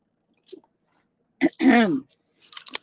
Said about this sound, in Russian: Так, момент. Глоток бургундского.